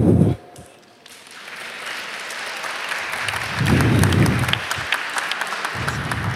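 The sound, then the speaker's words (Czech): An audience at a Proxima Sociále event applauds as guests are introduced: a dense, crackling wash of many hands clapping that starts after a brief lull, builds, and holds steady and fairly loud to the end, with some low rumbling underneath. “Dneska budem tleskat, jo, to bude dobrý.”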